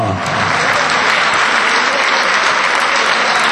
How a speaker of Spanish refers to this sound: No está con nosotros Tomás, pero sí le vamos a dedicar la misma ovación.